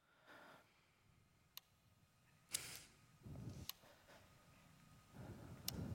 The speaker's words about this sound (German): Okay, it's Morse code and it's CC. Es ist Morse code und es ist CCC. Habt ihr den Sequenz erkannt?